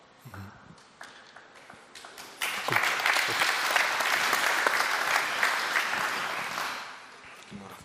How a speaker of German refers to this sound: Sie sehen, Sie haben den ersten Applaus bekommen, das heißt, Sie haben offensichtlich den Nerv getroffen.